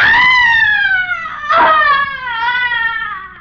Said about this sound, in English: A young man has just entered the darkened interior, and as he moves across the room, he hears a sudden, blood-curdling shriek of frustration and anguish coming from another part of the house.